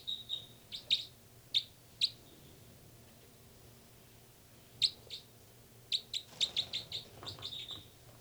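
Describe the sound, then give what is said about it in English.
Two birds, numbered 305 and 306, call back and forth, one of them in flight. Sharp, high-pitched chirps come in scattered bursts, a few isolated calls early on, then a quick cluster of repeated notes near the end, over a low steady hum. “Both birds there.”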